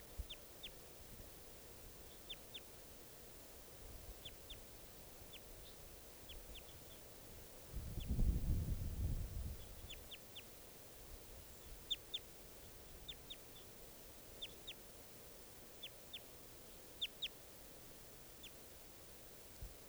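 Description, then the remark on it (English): Wild bird calls: short, sharp, high-pitched chirps scattered in quick little clusters over a steady low hiss, with a brief low rumble swelling up midway through. “Troops of 3 or 7 there, wild bird calls.”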